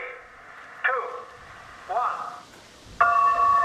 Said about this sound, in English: Like a real regatta, the boats tack and wander away from the start, trying to time it so they cross the line exactly when the bell sounds.